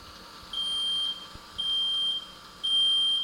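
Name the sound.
smoke detector alarm beeping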